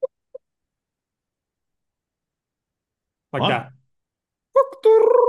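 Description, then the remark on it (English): A voice imitates a sound that a young chicken made only once, giving a short rough burst and then a longer, warbling chirp after a pause, with no other talking around it. “What sounds this chicken making? Well, he made this one sound. He only made it once, but it sounded like a lot, like sort of like.”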